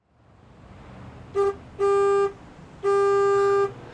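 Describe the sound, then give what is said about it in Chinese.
A bus horn honks three times, a quick short toot followed by two longer, loud blasts, over a low engine rumble that grows as the vehicle approaches. No one speaks. “正好公交车来了，拽好衣服上车回家。”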